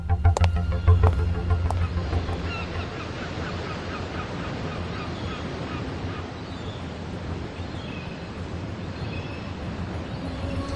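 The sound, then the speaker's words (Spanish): Steady roar of sea waves washing in continuously at Howland Island, with seagulls crying repeatedly on top in high, scattered calls. No one speaks. “Jesús, escuchamos de fondo el ruido del mar, las olas, las gaviotas.”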